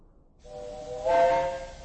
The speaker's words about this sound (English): What's happening outside? They're getting up steam on the engine. Does that mean the line is clear?